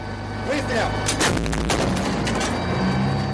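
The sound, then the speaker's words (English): A US-made M109 Paladin self-propelled howitzer of Ukraine's 93rd Brigade fires near the town of Bakhmut, with a few sharp, heavy blasts cutting through a steady, loud engine rumble that continues throughout. “The entire crew of the US-made M109 howitzer springs into action.”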